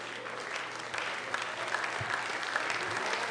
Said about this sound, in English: Well, if you're clapping for Jesus, give him a hand clap fit for a king.